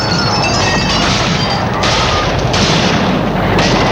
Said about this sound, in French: De là, on entend toujours le bruit. Le bruit. Des assauts, l'incendie, des explosions.